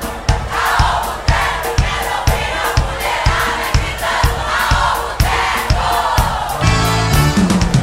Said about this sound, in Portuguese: Quero ouvir a mulherada gritando: Alô, Boteco!